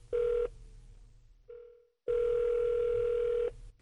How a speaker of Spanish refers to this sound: Ya estamos marcando el número de teléfono